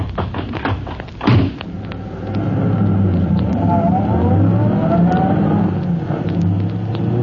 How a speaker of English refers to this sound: The time is 12 minutes to 1 o'clock in the morning. The night is pitch black, and as Polecat and Scrubby in their fast car escape from the scene...